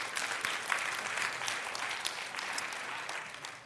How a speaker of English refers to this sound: I don't know why you're clapping for them. They don't do anything but come to church.